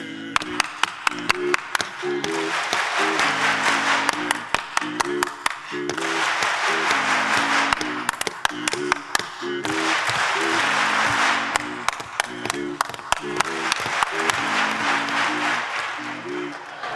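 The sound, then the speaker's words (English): Sharp rhythmic clapping comes in repeated patterns as everyone claps back after a leader, bursts of quick claps trading back and forth like a call-and-response, over a steady tonal hum or murmur of voices. “What I really, really want is everybody to clap after me.”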